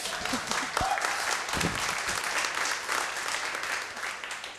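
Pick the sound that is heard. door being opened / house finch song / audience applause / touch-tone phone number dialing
audience applause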